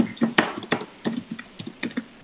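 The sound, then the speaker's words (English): Rapid, irregular clicks of computer keyboard typing come through an open mic line, a steady patter of keystrokes at moderate volume with faint background hiss. “I've got some typing noise, so I've got an open microphone.”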